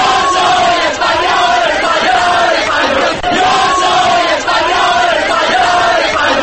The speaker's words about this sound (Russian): Мы испанцы, слава Испании!» — скандирует толпа.